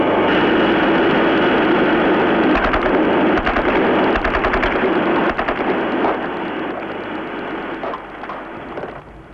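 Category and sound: sound effect, gunshots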